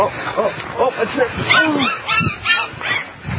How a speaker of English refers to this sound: Here's the puppy clip. Cute little puppy. So cute little puppy.